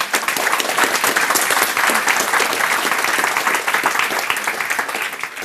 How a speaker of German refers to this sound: euer Applaus.